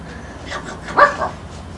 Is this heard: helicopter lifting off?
no